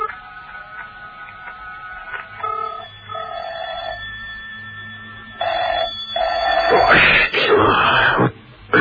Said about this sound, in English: And Mrs. Peel listened intently to the phone ringing at the other end. There was no reply. No reply, because the number she was ringing was John Steed's car telephone, and John Steed was lying beneath it, hardly conscious.